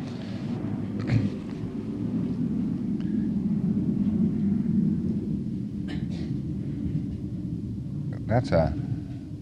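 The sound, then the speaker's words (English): A new jet fighter on a practice flight roars overhead, a heavy, sustained low rumble that fills the whole stretch without fading, with a few brief muffled voice fragments breaking through. “That's one of these new jet fighters they're practicing.”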